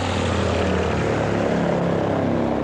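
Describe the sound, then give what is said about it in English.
Steady, loud droning of the propeller engines of a C-123 cargo plane dumping thousands of gallons of chemical defoliants over South Vietnam in the mid-1960s, a dense continuous roar with a low pulsing hum, unbroken throughout, with no voices. “A lumbering C-123 cargo plane dumping thousands of gallons of chemicals over South Vietnam, as captured in the mid-1960s by a TV news crew.”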